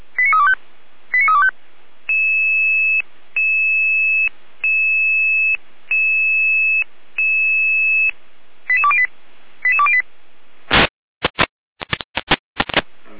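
Fire brigade alert tones calling out fire brigades in Saalfeld to a fallen fir tree on the road: quick bursts of stepped beeps, then a run of long, steady two-pitch tones with short gaps, more rapid beeps, and finally a few sharp radio clicks. No voices.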